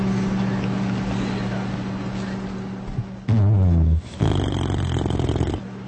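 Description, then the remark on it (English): A low, steady droning hum runs for about three seconds, then a voice makes two loud snoring noises: a deep, throaty rumble followed by a harsh, raspy snort. “Who's snoring?”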